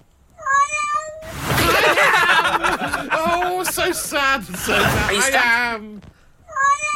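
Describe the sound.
A cat stuck on an upturned mattress, its claws embedded in it, gives plaintive, drawn-out meows at the start and again at the end, with a person talking and chuckling loudly over the middle stretch.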